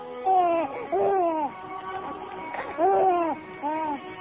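A newborn baby cries in four short, wavering wails with brief pauses between them, fairly loud, the thin high-pitched voice rising and falling in each burst.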